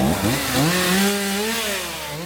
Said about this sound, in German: Es ist eine besondere Geräuschkulisse an diesem Tag im Stadtteil Dom in Brandenburg an der Havel. Kettensägen, Baumschredder, soweit das Ohr nur reicht. Immer noch müssen Spezialfirmen zahlreiche umgestürzte Bäume beseitigen